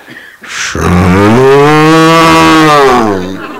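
A single long, loud cow moo sustains for about two and a half seconds, clear, with a brief breathy noise just before it and no talking.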